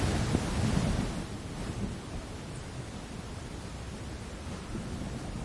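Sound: evening rain falling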